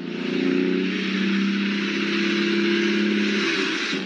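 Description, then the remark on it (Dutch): A milk tanker truck's engine drones steadily, a loud low rumble that holds for a few seconds as it drives past, with no one talking. “De melkwagen dus. Die komt hier nogal eens langsrijden.”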